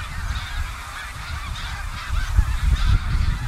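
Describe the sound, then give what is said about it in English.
A large flock of snow geese flying north in New England honks continuously overhead, many overlapping calls blending into a steady clamor, with a low wind-like rumble underneath that swells slightly toward the end. “I mean, I think that these geese are one of the great natural events in all of New England.”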